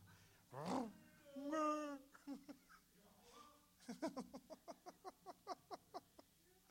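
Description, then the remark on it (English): A voice imitates a lion's roar: a loud, drawn-out growling roar, then a run of about a dozen short rhythmic grunts that fade, with no one speaking. “You know, he sounded like the lion.”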